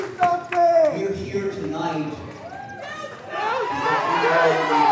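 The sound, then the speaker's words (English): A crowd at a memorial in Dayton, Ohio, for people killed that morning shouts together in a chant of "Do something" over DeWine's amplified voice. The chorus builds, turning louder and denser in the second half until it drowns out his remarks. “The chant eventually drowned out DeWine's remarks.”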